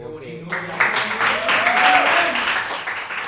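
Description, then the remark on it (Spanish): A short burst of live audience applause breaks out after a brief spoken moment, dense crackling claps building quickly and holding steady, with voices faintly audible underneath. “Las palmas son en directo, las palmas no son en off, son en directo.”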